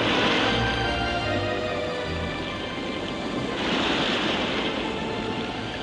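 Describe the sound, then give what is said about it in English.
Steady sea surf washes and rolls continuously at Cromer Pier on the English seaside, a broad hiss of breaking waves with gentle swells in loudness, with some wind buffeting the microphone and no voices. “All the fun of the seaside at Cromer Pier.”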